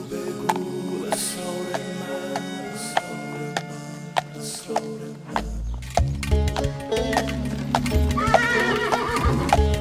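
A horse's hooves clip-clop in a steady rhythm of sharp knocks, then a loud, wavering whinny rises toward the end over a sustained tonal backdrop.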